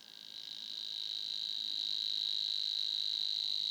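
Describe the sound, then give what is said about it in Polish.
A Savi's warbler's reeling song, a continuous high, even-pitched insect-like buzz that swells slightly at the start and then holds steady and fairly loud throughout, with no voices. “Czasem brzęczka może tak trykotać na początku swoich zwrotek, strumieniówka podobnie, ale tu się nic nie dzieje.”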